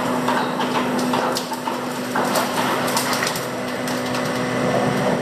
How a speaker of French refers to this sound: C'est un peu comme du pop-corn. Faut tendre l'oreille, parce qu'il y a tout l'appareillage du bateau que l'on entend. Mais les crépitements, les craquements que l'on entend, ce sont ces roches qui éclatent une fois sorties de l'eau.